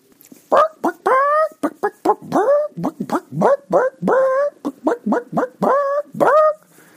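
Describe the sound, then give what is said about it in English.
A show host imitates a dog barking to open the show, producing a rapid, loud string of about fifteen short, voiced yaps and woofs, with no other talking. “You were expecting me to go, hey, but I went, bark, bark, bark.”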